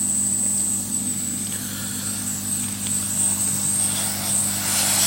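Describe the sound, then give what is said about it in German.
A hot air rework station blows steadily, a constant airy rush with a low motor hum and a thin high-pitched whine running throughout, with no speech. “Auf dem Abstand von der Hot Air ist das unkritisch, wie warm die ist.”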